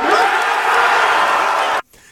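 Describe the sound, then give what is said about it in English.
A dense, loud roar of crowd cheering for Bill Belichick with scattered whoops, holding steady for nearly two seconds before cutting off abruptly into near silence. “Oh, I was going to say, I didn't know they had a crowd that big to cheer and make it sound like that at the end.”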